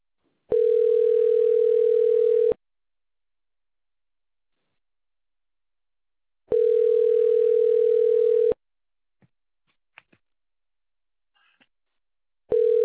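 A telephone ringback tone on an outgoing call to a water company's line to report a water outage: a steady mid-pitched beep lasting about two seconds, repeating after long silent gaps, with faint clicks between rings and a third ring cut off at the end.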